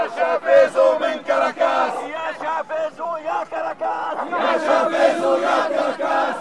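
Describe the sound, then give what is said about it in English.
A large protest crowd chants in loud, rhythmic bursts, many voices shouting together in a steady cadence with brief pauses between phrases, praising Venezuelan President Hugo Chavez while carrying his picture and a Venezuelan flag. “The crowd praised Venezuelan President Hugo Chavez and even carried his picture.”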